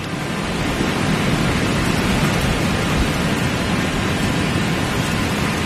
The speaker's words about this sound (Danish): Og nu blæser det op. Ja, nu blæser det op, ja.